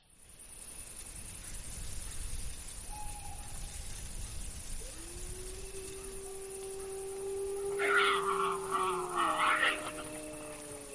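In the Muniellos oak forest in Asturias, Spain, a frightened wild boar grunts while a wolf howls: a single long, sliding howl rises and holds, then the pack answers in a brief chorus, all over a steady outdoor background hiss.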